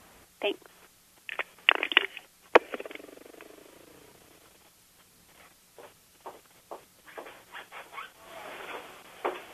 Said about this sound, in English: I hear some fast steps. Some fast stepping. Some irritated footsteps.